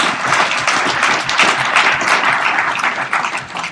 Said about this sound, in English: Great. How about we give a round of applause for all of you?